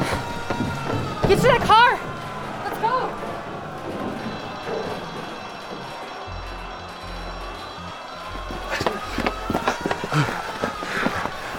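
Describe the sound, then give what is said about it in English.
Hurried running footsteps pound along beneath a tense, busy soundscape, with short bursts of shouted speech over the top and rumbling low tones partway through. “Yeah, I'm running.”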